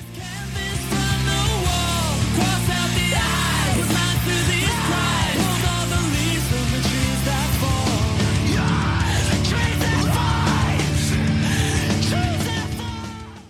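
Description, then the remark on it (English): A harsh, strained screamo "splat scream", a hallmark of mall screamo, yells over a loud, dense rock band with distorted guitars and driving drums, the screaming sustained and upfront for the whole stretch. “This scream can only be described as the splat scream, a hallmark of the mall screamo your boy Dr.”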